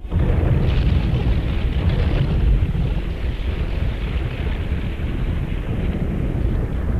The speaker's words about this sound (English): In this part of the programme, John is describing doors being opened in heaven.